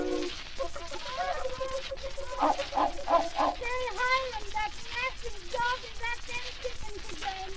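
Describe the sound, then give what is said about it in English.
A voice imitates chickens and roosters clucking, a quick run of rhythmic, pitched cluck-like bursts followed by warbling calls, fairly loud against a busy background. “And the chickens and the roosters, they go.”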